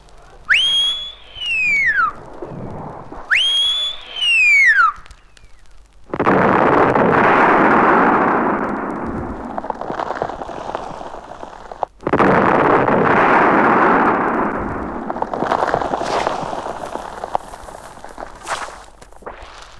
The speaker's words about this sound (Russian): Два свистка сразу. Это чтобы близко вас около взрыва не было. Нам самим не больно хочется вообще взлетать на воздух, честно говоря.